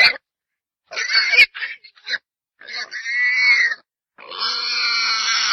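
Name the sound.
wild boar grunting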